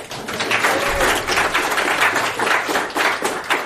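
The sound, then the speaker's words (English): A round of applause from a group for participants after a no-touch partner movement exercise: dense overlapping claps form a steady, fairly loud crackling wash that holds for several seconds. “Round of applause for more.”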